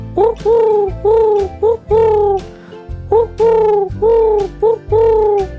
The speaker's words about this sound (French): Le pigeon, il va roucouler 5 temps.